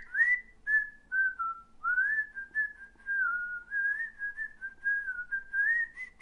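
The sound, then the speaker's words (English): A person whistles a wavering tune in a steady mid-high pitch, with gentle rises and dips and short breaks between phrases. The tone turns airy and breathy, with audible blowing, toward the end. “It went blowy at the end, like mine was. See, you can hear the blow.”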